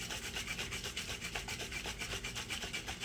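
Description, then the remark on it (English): A cocktail made with a shot and lime juice being shaken in steady, rapid strokes, a continuous rhythmic rasping swish with a quick regular pulse throughout, fairly loud and with no voices. “Okay, and then I think we just shake it, right?”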